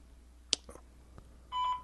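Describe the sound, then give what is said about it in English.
A sharp click and a few soft clunks on a quiet line, then a short steady electronic telephone beep near the end, as a phone call to Joe DeRosa connects while testing a phone system. “We were calling you.”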